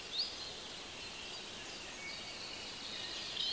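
Faint birds singing, a steady wash of high chirps and twitters over soft background hiss, with a couple of slightly clearer whistles at the start and end. No one speaks.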